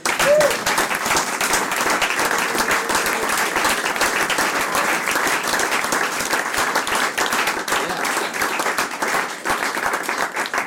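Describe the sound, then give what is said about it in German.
An audience at a Jazz Club Tübingen concert, after a band's piece, applauds steadily: dense clapping sustained at an even loudness for the whole stretch, with a faint voice or whoop briefly audible near the start. “Applaus.”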